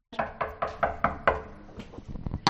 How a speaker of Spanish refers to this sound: Y voy a llamar a su puerta.